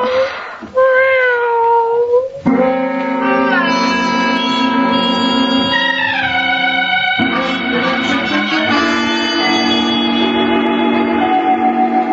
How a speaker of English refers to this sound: There's nothing there, honey. Huh? Nothing more than a friendly cat named Shushu.